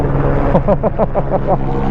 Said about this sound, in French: Oh, l'hélicoptère qui dit bonjour!